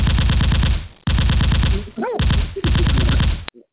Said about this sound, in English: Let me get these gunshots ready for the...